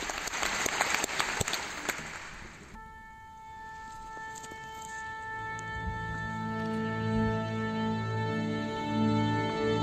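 A concert audience claps loudly for about three seconds at the start of a concert organized by the Asociación contra el Cáncer to celebrate 50 years of its scientific foundation. The applause then breaks off as sustained instrumental tones take over, swelling with deeper notes toward the end.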